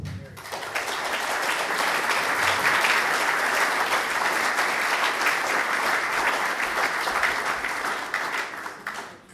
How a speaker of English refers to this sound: You guys can clap.